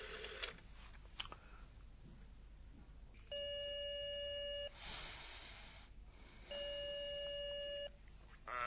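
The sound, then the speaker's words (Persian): A few brief clicks of a phone being dialed late at night, then two long, steady electronic ringing tones with a pause between them, over faint background hiss. “گفتم یه تلفن میخوام، همین. اوه بفرمین، با همین زنگ بزنین.”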